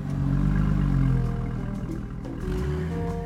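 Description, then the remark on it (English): Son cubano music plays steadily on a street in Cuba with a full, low-heavy sound, its notes shifting every second or so, mixed with a dense rumble like busy street noise. “Hear that? It's a famous type of music called son cubano.”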